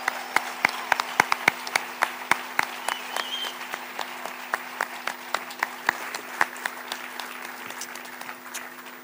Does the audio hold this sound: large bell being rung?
no